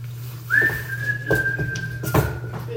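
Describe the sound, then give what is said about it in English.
Someone whistles a brief tune that is mostly one long, steady note sliding up at the start, clear, over a low constant hum with a couple of soft knocks. “He said, but they came in like Whistling Dixie.”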